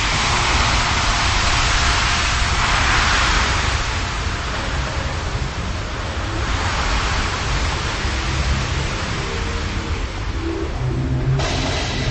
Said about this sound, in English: What we have here are explosions at the ocean entry building a littoral cone. And littoral basically means coast. When water and lava get trapped together in a tube, steam pressure builds, then explodes.